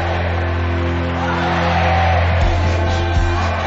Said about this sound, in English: Nestled among modern skyscrapers and sprawling highways, the saucer-shaped bullring looks like a relic from the ancient world. The crowd roar their approval as a bull charges the matador's pink and yellow cape, its horns passing inches from his body.